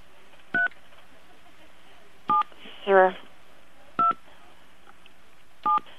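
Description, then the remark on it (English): Four short phone keypad tones are pressed slowly on a caller's phone during a call, one every couple of seconds, each a brief steady two-note beep. A brief louder burst of another sound falls between the second and third tones. “We do not have the capacity to read your keypad at home.”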